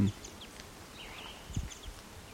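A faint, burry, slurred whistle from a western wood pewee, with a few soft high chirps around it over quiet background hiss and a couple of low thumps.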